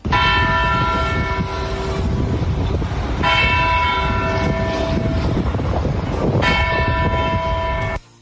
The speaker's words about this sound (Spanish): Los vecinos se habían acostumbrado, dormían a pierna suelta sin nada que les moleste. Hasta que hace unas semanas lo arreglaron y volvieron las temidas campanadas.